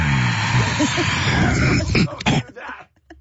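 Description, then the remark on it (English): A man groans and strains with rough, guttural noises after setting down dumbbells at the end of a hard set, then breaks into harsh throat-clearing coughs and gagging sounds that sputter out into short, choppy bursts before trailing off. “Especially the coughing and gagging at the very end.”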